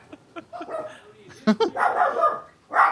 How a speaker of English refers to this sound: And the dog goes bananas right on cue.